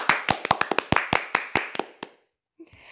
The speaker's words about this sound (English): So this definitely deserves a second round of applause.